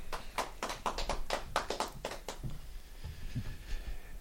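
A brief round of audience applause: about a dozen crisp, fairly steady claps over two seconds, which then stops abruptly, leaving only a low, quiet background hum.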